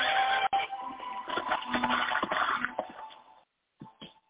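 horse neighing

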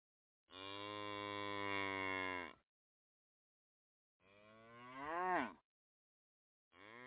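cow mooing

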